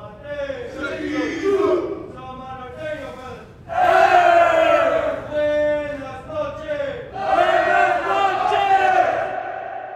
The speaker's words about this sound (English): I would grab the bars and, like, scream at the top of my lungs, you know. Excuse me on the tier! Excuse me on the tier!